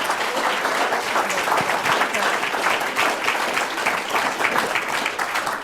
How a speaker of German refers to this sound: Ihr dürft euch wieder setzen und kriegt nochmal einen fetten Applaus.